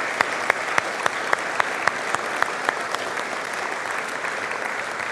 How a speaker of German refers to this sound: Deswegen würde ich sagen, jetzt nochmal einen Applaus für alle, auch nicht namentlich genannten Mitarbeiter.